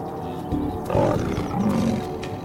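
lioness roaring

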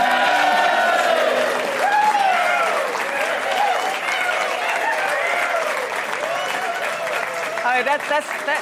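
audience cheering and applauding

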